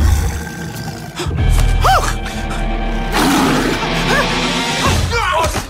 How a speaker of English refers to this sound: There is a tiger in the bathroom. What's going on? There's a jungle cat in the bathroom.